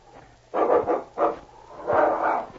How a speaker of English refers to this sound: Look out for that dog.